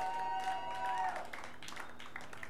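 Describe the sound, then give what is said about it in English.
An audience applauds itself with a scattered patter of clapping, fairly soft and steady, after a brief high whistle-like tone at the start. “Cats, give yourself a hand.”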